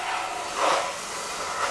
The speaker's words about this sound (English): See, down that washing car. You say car? No, shake your head no. See that now? See that now washing car?